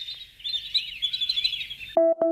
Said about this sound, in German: Und dann noch den Vögeln beim Zwitschern zu sehen.